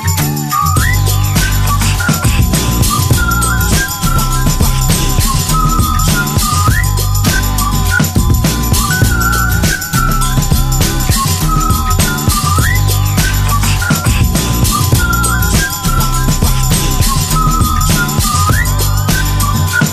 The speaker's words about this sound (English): As I walk down the street, whistling this.